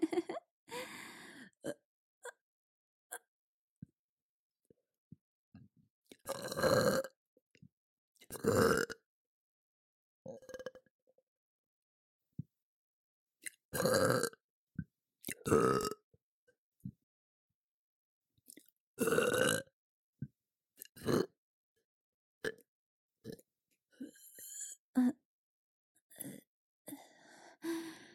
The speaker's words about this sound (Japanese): ゲップ恥ずかしい。